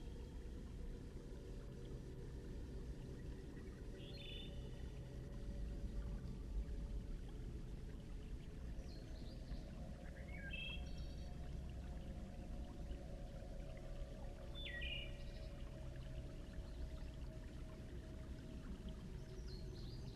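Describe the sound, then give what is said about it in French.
A steady, continuous rush of flowing river water fills the scene at an even level, with a few faint, brief chirps occasionally rising above it and no voices. “Observez l'agitation de cette rivière.”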